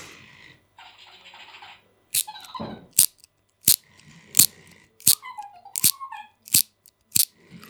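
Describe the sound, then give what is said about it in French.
A small mechanical toy whirs softly, then clicks sharply about a dozen times in an uneven rhythm, with squeaky whining tones sliding between the clicks, fairly loud. “Je sais pas comment on éteint le monsieur là, le jouet.”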